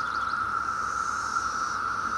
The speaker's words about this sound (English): This is Brood 10, 17-year periodical cicadas. That's the big boy band up in the treetop. Right now it's all about romance.